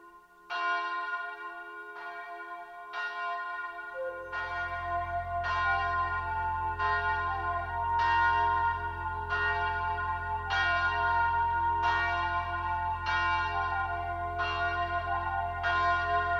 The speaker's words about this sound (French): La grosse cloche sonne, la grosse cloche sonne, la grosse cloche sonne.